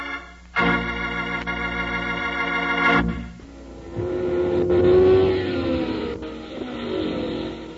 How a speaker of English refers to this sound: How exciting it is to go to the hot rod races, watching those fast, souped-up cars burn up the track.